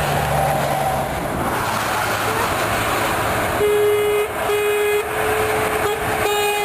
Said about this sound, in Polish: I pierwsze samochody mogły przejechać nową trasą.